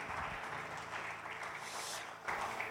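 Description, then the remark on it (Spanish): A church audience gives an applause of praise celebrating the presence of God, a dense, steady wash of many hands clapping with no pauses, briefly dipping near the end before swelling again. “Podemos celebrar la presencia de Dios con un aplauso de alabanza.”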